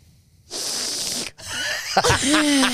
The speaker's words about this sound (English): I actually needed to sniff in then. Yeah. But it felt right to do your sniff.